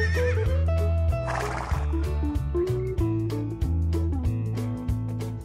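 A horse neighs once, a shrill wavering whinny that trails into a breathy snort, set over steady rhythmic background music with a regular beat.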